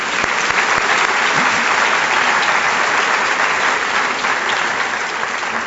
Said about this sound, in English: Where are my sons? These two, stand up. Will you two? Give another hand. They like applause.